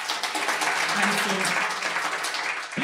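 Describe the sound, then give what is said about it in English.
An audience claps at once, a dense, steady burst of applause that holds for a few seconds before tapering off, with a faint murmur of voices underneath. “So everybody here was clapping their hands.”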